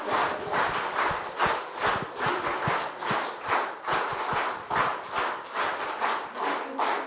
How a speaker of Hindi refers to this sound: okay, वैसे तो रुकनी नहीं चाहिए तालियां, लेकिन अभी टाइम के हिसाब से इतनी, पर इसके multiply by multi million times,